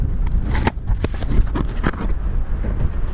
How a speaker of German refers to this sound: So, ganz vorsichtig. Oh, ist schön verpackt. Ein bisschen Papier außenrum noch. Hier auch.